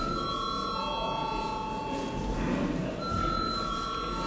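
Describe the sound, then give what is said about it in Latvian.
A Latvian parliament (Saeima) voting bell rings continuously for about four seconds before deputies vote, a steady, bright electric ringing with a metallic buzzing edge and no pauses, with no voices over it. “Lūdzu zvanu.”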